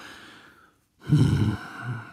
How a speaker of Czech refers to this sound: Telefon onemí. Bratři dýchají, v pozadí zní klidná hudba.